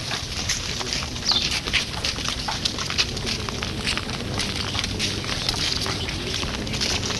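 A dog whines and snuffles amid a dense, crackling wash of background noise that stays steady throughout, with no clear barks standing out.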